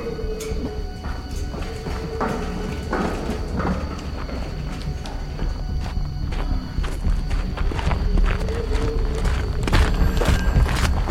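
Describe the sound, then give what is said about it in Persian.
Footsteps come down a flight of stairs from a room above a mine in a steady series of sharp, hollow knocks over a constant low hum and a faint high whine, growing slightly louder toward the end. “شاهین از پله ها پایین میاد.”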